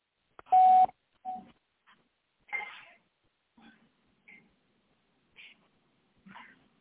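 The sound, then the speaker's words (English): Phone dialing tones as another caller is added to a call, the others put on hold: a string of short keypad beeps at irregular intervals, the first one loud and sustained, the rest quicker and fainter, with no one talking. “I have to add it. It put you guys on hold when I called.”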